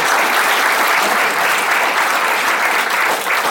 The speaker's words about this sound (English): Thanks for the audience engaged questions. So, a round of applause.